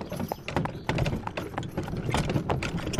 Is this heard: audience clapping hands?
no